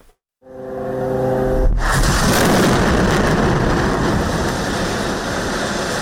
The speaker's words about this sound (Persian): غرش جت‌های جنگی اسرائیل و سپس صدای چندین انفجار. این وضعیت دیشب نیز در نوار غزه ادامه داشت.